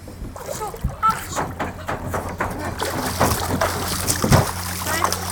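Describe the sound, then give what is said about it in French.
Water is splashed and poured over a hot kayak's hull to wet it, a run of irregular wet splatters and sloshes over several seconds, with faint voices in the background. “Je vais juste le mouiller parce qu'il est bien chaud.”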